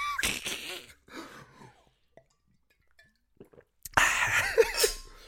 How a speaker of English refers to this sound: Oh, shit, I just broke a glass. I just broke a glass in my house on my podcast.